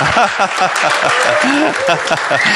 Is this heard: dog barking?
no